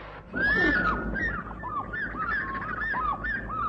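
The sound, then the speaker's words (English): A great fish eagle calls with a loud, ringing cry, then a rapid series of shorter yelping notes that carry on steadily over a low background rumble. “What's that bird? The great fish eagle.”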